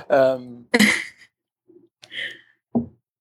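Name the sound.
coughing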